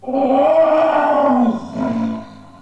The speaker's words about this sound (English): "Ah, my goodness, the lion!" "Oh, it's nothing. Someone has left the cage open."